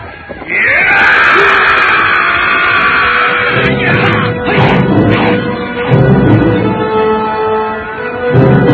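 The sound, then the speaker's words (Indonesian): A man lets out a long, loud scream, followed by a series of heavy crashing, booming impacts that rumble and roar as the Aji Segara Geni magic power strikes, a powerful magical blast tearing through the air. “Rakuti berteriak dan Aji Segara Geni menyambar dengan dahsyat.”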